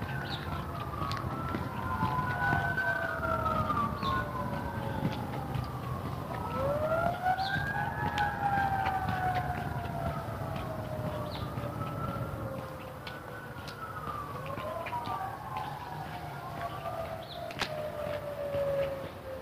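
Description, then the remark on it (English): Many emergency vehicle sirens wail at once, their rising and falling tones overlapping continuously over a steady low traffic rumble, fairly loud. “Sirens. I don't know if you can hear the sirens, but there's lots of sirens.”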